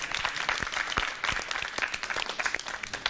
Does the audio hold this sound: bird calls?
no